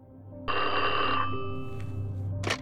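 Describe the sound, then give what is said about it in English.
A loud telephone bell rings once in a hotel room in a sustained metallic burst, then trails off as a steady low hum continues underneath, with a brief sharp click near the end. “When Edwards got to his hotel room, the phone rang almost immediately.”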